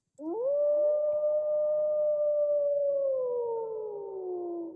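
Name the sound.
wolf howling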